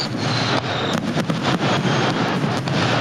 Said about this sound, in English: Fireworks shows across the nation will celebrate Thursday evening, including the traditional shows on Pensacola Beach and downtown Pensacola, weather permitting.